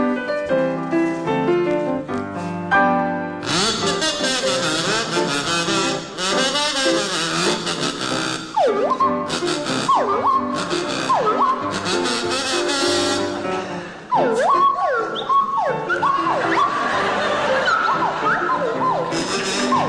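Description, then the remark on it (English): Willie Rushton on kazoo and Jeremy Hardy on swanee whistle play a tune together, the kazoo's loud buzzy tone mixing with the whistle's swooping, siren-like slides up and down in pitch, after a short tuneful introduction. “and it's to feature Willie Rushton on kazoo and Jeremy Hardy on the Swanee Whistle.”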